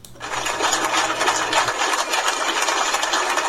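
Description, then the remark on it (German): Bertrand Piccard's aircraft engine runs steadily after landing, a loud, continuous whirring rush with a faint low hum underneath that drops away partway through as the engine is shut down for the last time. No voices are heard. “Hören wir doch kurz, wie es nach der Landung getönt hat, in dem Moment, wo der Bertrand Piccard zum letzten Mal den Motor von seinem Flugzeug abgestellt hat.”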